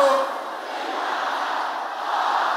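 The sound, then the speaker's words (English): An audience shouting a prayer together during a church service, many voices at once forming a dense, continuous roar that stays loud and steady, swelling slightly near the start and end. “Can I hear you shouting this?”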